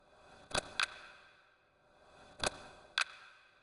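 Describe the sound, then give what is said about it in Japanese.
A clock ticks slowly and steadily, each tick a crisp click arriving in pairs about two seconds apart against a faint hushed background, with no voices. “時計の音に身を任せて。”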